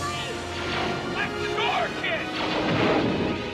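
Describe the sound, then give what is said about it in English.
Repeated blaster shots as Luke starts blasting and hits the first stormtrooper zap and sweep in quick bursts over a loud, dense wash of sound that stays steady for the few seconds, with sharp pitched chirps standing out throughout. “I love that Luke just stands there and then just starts blasting and just nails that first stormtrooper.”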